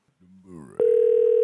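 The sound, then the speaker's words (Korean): A brief voice is cut off by a loud, steady electronic telephone ringing tone of an incoming call that starts abruptly and holds one unwavering pitch without a break to the end. “전화 받아요.”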